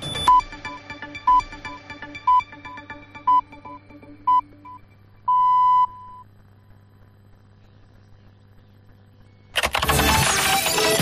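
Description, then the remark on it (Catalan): A radio time signal marking half past the hour: a row of five short, high electronic pips spaced about a second apart, then one longer pip of the same pitch, ending in a brief hush before a loud burst of noisy sound cuts in. “Nosaltres esperem els tons, arribem a dos quarts i parlem de noves tecnologies.”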